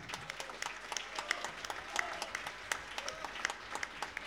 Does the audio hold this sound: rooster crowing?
no